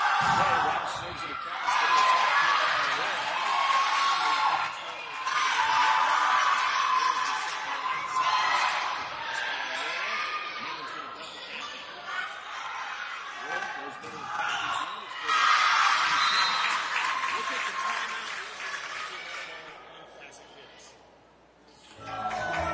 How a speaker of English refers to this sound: I just had a phone call and they can't hear you on the radio. But they can hear people cheering.